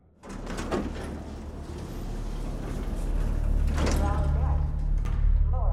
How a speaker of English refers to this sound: The elevator doors open.